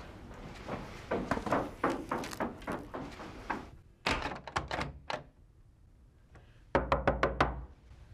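Knocking on a closed door, urging the person inside to open it, comes in three insistent bursts of rapid, firm raps, loud, separated by brief pauses, with the final volley sharper and more urgent.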